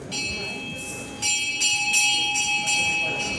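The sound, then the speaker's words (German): A bright bell rings repeatedly in a steady rhythm, its strokes overlapping with a sustained ringing tone, in a spacious ceremony hall at an ayahuasca ritual, with a faint background murmur. “Als die Glocke läutet, öffnen sich am Ende des weitläufigen Saales drei kleine spitze Fenster, eine Art Ausschank.”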